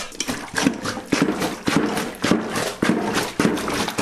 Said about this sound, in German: Jetzt kommt die Wäsche noch einmal in die Wanne und wird durchgestampft. Hier habt ihr einen Stampfer.